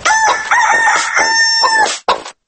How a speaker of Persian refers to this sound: یه موجود ناز و دوست داشتنی به اسم مرغ، صداش روح و نوازش میده، سفید عین برفه، خوشمزه و لذیذ و این روزا دست نیافتنی.